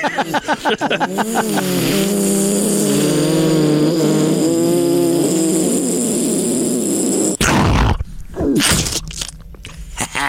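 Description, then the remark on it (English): In a radio studio in St. Louis, a man imitates buzzing drones with his voice: a loud, sustained, wavering hum that slides up and down in pitch for about seven seconds, then breaks off into a burst of rough noise. “Oh, no, the drones again.”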